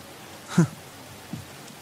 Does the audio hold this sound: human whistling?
no